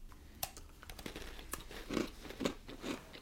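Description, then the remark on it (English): A crisp bite into a hard, dry Stella Dora Anisette Toast cookie, followed by three loud, evenly spaced crunchy chews, with no talking. “Tell you, those, you haven't had Anisette, crunchy, delicious, dunkable.”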